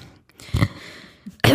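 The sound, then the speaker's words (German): A raspy throat-clearing burst, a short gurgling pause, then a second harsh rasp cuts in abruptly at the end, like someone hawking up and swallowing phlegm. No speech. “Zwischendurch muss man den Schleim mal runterschlucken.”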